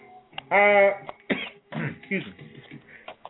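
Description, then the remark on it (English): A single loud, voiced sneeze bursts out, followed by a few short, breathy noises and quieter throaty sounds as things settle. “excuse me. Oh, sneezing.”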